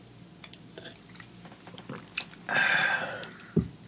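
human body sound, sipping and swallowing water

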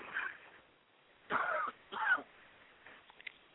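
human body sound, coughing

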